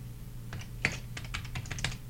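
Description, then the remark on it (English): Slow typing on a computer keyboard into WordPad, spelling out words: about a dozen separate key clicks, unevenly spaced with short pauses, fairly quiet over a steady low electrical hum. “Alright, I'm just going to do a little slow typing here.”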